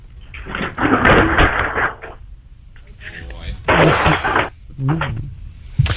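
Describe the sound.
A small bedside table being smashed: several loud, muffled crashing bursts with rumbling, thundery impacts, one long burst followed by shorter heavy bangs, with some muffled voices in the background.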